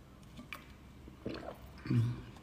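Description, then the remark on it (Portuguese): A person takes a quiet sip of water: faint mouth and liquid sounds, followed by a soft, low gulp near the end. There is no talking, just a hushed background. “Agora, preste atenção, deixa eu beber um pouquinho de água.”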